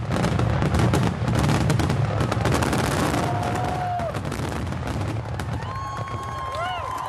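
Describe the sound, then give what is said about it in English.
Rapid, dense bursts of fireworks crackle and boom in a continuous barrage, with whistling rockets rising and a crowd murmuring beneath the loud finale of a July 4th fireworks display in Washington, D.C., in 2014. “Ah, the grand finale. It was one of an estimated 14,000 fireworks displays across the country last year, around this time.”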